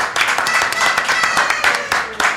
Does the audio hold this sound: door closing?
no